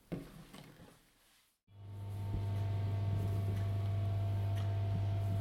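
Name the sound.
clock ticking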